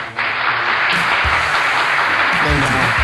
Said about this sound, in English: I'm going to give myself a clap because I screwed that up.